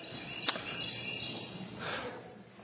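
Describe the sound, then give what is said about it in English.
A phone alert gives one short, high, bird-like chirp early on, followed by a faint trailing tone over quiet room hiss, with no voices. “That must be a phone and not actually a bird in here.”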